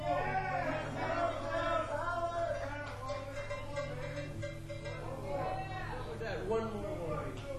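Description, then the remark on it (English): A live show audience chatters as the crowd thins out near the end of the set, overlapping voices forming a steady, fairly loud babble with a low constant hum underneath and no single speaker standing out. “crowd's thinning out.”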